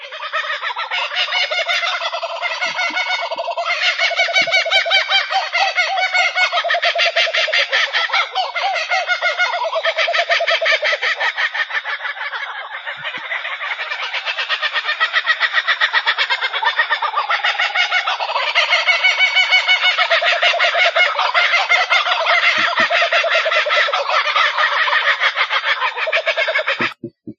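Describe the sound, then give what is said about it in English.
Kookaburras, birds found in and around Australia, laugh in a loud, raucous chorus of cackling, rolling calls that overlap continuously for the whole stretch, full, with no talking. “I have another sound that's really serious, and this is the kookaburra.”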